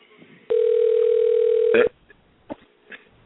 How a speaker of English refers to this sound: I heard the phone ringing.